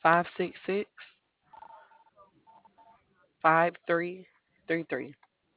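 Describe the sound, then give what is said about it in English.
A second telephone at a Department of Public Health coronavirus hotline rings faintly in a short run of warbling tones during a pause, with people talking briefly before and after it. “Hold on, my other phone's ringing.”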